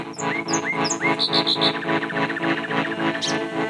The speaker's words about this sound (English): But very quickly will pull you under his spell and you'll fall into this amazing pattern and rhythm that the birds sing in that can really take you away for many hours into the night just listening.